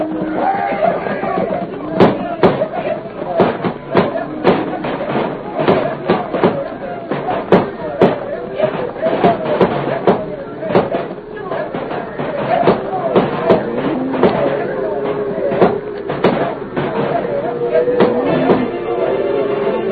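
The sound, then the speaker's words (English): Rapid, irregular gunshots crack again and again over a noisy commotion of shouting voices, the sharp reports coming in scattered bursts throughout, fired to start a herd of cattle stampeding in a valley. “Fire off your shooting iron. Start them critters to stampede.”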